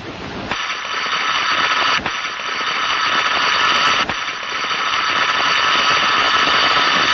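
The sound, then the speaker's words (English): A harsh, buzzing tone from an early telephone receiver, the sound Bell had always heard from the receiver when listening in his experiments, drones steadily and loudly for several seconds, breaking off for two brief instants along the way, with no voices present. “This is the sound that Bell had always heard from the receiver when he was had been listening before.”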